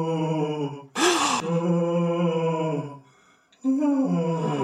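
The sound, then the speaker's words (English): Eerie, ghostly moaning at the Playboy Mansion during a paranormal investigation: a long, low, wavering drone with a harsh breathy rush early on, fading into a brief lull before another loud moan swells up and carries on. “Listen to this eerie moaning.”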